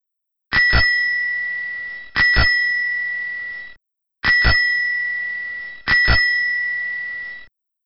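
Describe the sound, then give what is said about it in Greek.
A bicycle bell rings four times, each a quick double ding followed by a bright metallic shimmer that slowly fades, loud with short silent gaps between rings. “Κουδούνι ποδηλάτου.”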